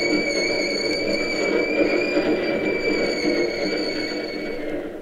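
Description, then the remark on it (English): A Key System electric commuter train comes down the ramp from the Bay Bridge into a terminal with a steady broad rumble and a high, sustained metallic whine from its wheels and motors, holding level throughout with no talking. “Sure, one of the key system trains. It's going into the terminal. Listen to it.”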